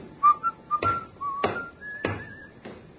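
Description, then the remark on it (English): A man at a baggage check counter, claiming a brown Gladstone bag, whistles a wandering tune at moderate volume, while four evenly spaced dull thumps, roughly two per second, knock beneath the melody. “It's the check you've been waiting for, that fellow there, whistling.”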